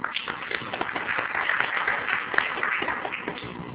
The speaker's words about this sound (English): If we can give him a little round of applause.